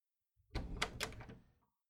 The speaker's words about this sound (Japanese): お待たせ。ちょっとドア開けてくれないかな。両手塞がっちゃっててさ。